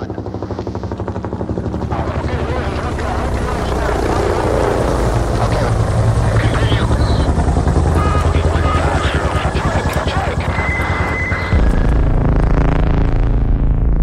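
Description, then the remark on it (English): A military helicopter on a mission in Afghanistan roars, its rotor chop steady and heavy throughout, with engine whine and faint tonal beeps layered over the continuous droning thrum. “In June of 2012, Kirstie was headed out on a mission in Afghanistan when the helicopter she was flying in went down.”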